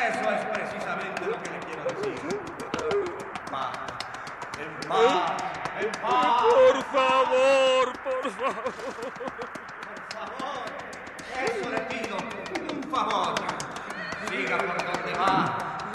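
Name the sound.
horse hooves galloping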